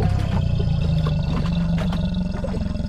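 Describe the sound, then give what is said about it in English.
An alligator's deep, rumbling roar in an alligator pond at the San Diego Zoo, a loud, steady low growl with a gritty, vibrating texture that holds for about three seconds without a break. “Wouldn't want to fall in the lake with all these crocs and gators around.”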